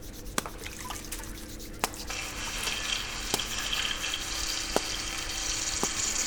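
A steady, rushing hiss of falling water in strong wind that is also moving the trees, swelling a little after the first couple of seconds, with a few sharp, scattered drips and taps and no voices.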